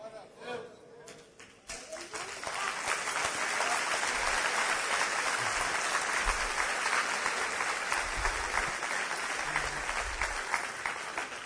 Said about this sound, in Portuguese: Que essas palmas sejam para o Santo Senhor. Ele é digno de todo louvor. E quando vocês aplaudirem, não aplaudam o meu discurso. Aplaudam aquele que toca sua alma.